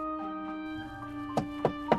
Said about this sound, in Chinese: 突然又传来敲门的声音，这次敲的是后门。